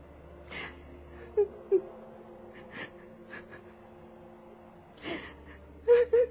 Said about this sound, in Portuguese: No entanto, Lívia, ao passar pela porta do aposento da filha, percebe a pobre jovem chorando, sozinha em seu leito, abandonada novamente pelo marido adúltero.